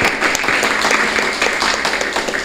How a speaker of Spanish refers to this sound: Así que quiero que por favor les demos un fuerte aplauso a los cuatro panelistas que hoy nos acompañan.